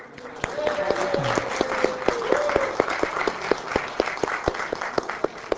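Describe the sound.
A crowd at a KITP evening event breaks into applause for a staff member who helped with parking, a steady wash of many hands clapping with sharper individual claps standing out, while a voice murmurs faintly underneath before the clapping thins toward the end.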